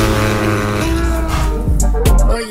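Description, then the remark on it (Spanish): A car engine hums steadily and loudly, then revs hard in a couple of quick rising bursts near the end, with no voices present. “Motores, ha llegado la hora de pisar el acelerador.”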